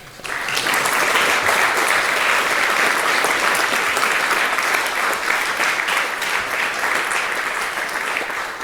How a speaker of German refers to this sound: Klatscht einmal für die.